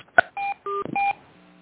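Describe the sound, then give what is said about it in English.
Conference-call join beeps: a brief click followed by three short, steady electronic two-tone beeps in quick succession, fairly loud, with no one talking and a faint low hum trailing after. “All right, before I go to the next since you guys are not on mute anymore, I'm hearing the beeps of people entering and joining, so I'm just going to turn those off really quick.”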